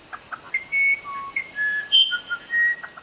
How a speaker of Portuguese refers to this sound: Mas Deus Tupã, em sua sabedoria, me transformou em um pássaro avermelhado que tem um canto mais lindo do mundo.